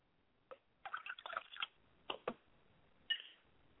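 Liquid being poured out as a libation to the north, heard as a handful of short, wet splashes and drips in an uneven rhythm, moderately loud, with no voices.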